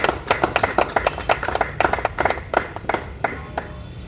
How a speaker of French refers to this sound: Des applaudissements pour ma famille, s'il vous plaît.